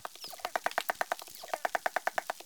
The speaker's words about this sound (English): The researchers sent us the dolphin sounds that they recorded. Here is one dolphin singing alone.